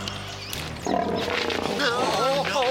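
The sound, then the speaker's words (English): A bear growls in a deep, rough, continuous rumble. After a quieter first second it swells louder and carries on with a wavering, grunting pitch. “So, basically, this bear's mad because we're out of beef jerky and didn't invite him to sit down to dinner.”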